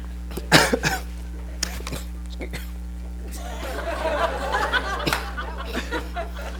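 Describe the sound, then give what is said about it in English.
A sharp cough bursts out near the start, followed by a couple of smaller coughs and throat-clearing sounds, then quiet breathy murmuring over a steady low hum. “When you cough and you can't talk.”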